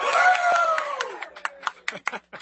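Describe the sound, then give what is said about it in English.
Live crowd applause at The Political Cesspool's happy hour show, real rather than canned applause, with a loud cheer or whoop at the start, then thinning out into a handful of scattered, separate claps as the clapping dies down. “And there actually is a large crowd here that is not canned laughter and canned applause.”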